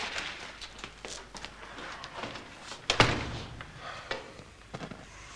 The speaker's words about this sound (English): Watson and Holmes walk through the front door.